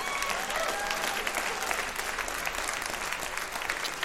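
applause

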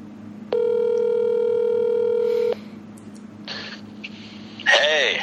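outgoing phone call ringing

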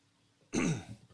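coughing and throat clearing

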